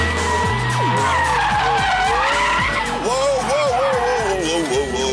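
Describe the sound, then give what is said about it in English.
Loud, continuous tire screeching as a car slides and spins out, with wavering high-pitched squeals over a roaring engine, sustained throughout. “So the car is like spinning out, and I'm going to get to the bit where he talks about racing it around the track.”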